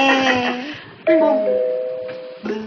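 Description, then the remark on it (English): A doorbell chimes as guests arrive at six o'clock: three bright, ringing tones struck about a second apart, each sustaining and fading slowly before the next. It sounds moderately loud with no talking over it. “I'll take Adam upstairs and check on Tabitha while you answer the door.”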